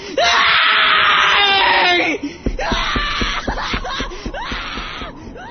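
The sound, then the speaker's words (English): A person screams loudly and shrilly about 2 feet away, then breaks into a series of harsh, strained yells. The screaming is sustained and intense, with no other voices or background sounds. “Stop yelling!”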